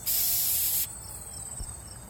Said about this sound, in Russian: В палатке комары.